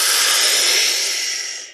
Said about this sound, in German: Und in 3 Sekunden atmen wir gemeinsam ein. 3, 2, 1. Tiefen Atemzug ein, vollständig ein.